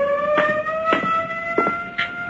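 A loud alarm siren drones on continuously with a steady, slightly rising multi-tone wail, while a few short, muffled bursts of other noise pop up over it.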